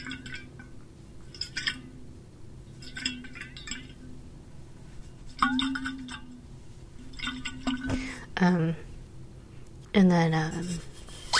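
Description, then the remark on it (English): Water sloshes and swishes inside a container in several short bursts as an ASMR trigger, with small clinking sounds mixed in, while a voice briefly murmurs near the end. “And water swishing.”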